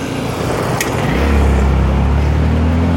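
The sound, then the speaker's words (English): Steady street traffic at a street corner, heard while waiting to cross, with a low engine rumble that swells as a vehicle passes through, continuous and fairly loud, with a brief sharp click early on and no talking. “Okay, I'm at the corner now waiting to cross to my building.”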